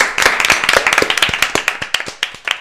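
An audience claps steadily for Félix Barancy, the show's technical manager, many hands producing a dense run of sharp, overlapping claps at a brisk rhythm, fairly loud and continuous without any voices.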